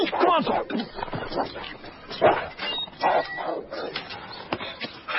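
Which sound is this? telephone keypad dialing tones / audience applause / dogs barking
dogs barking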